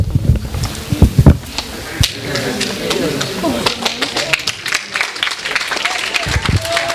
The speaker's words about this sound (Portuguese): Palmas.